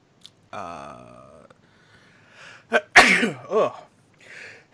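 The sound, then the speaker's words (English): A loud sneeze bursts out sharply after a drawn-in breath and a brief voiced buildup, followed by a couple of softer sniffles and breaths. “bless you”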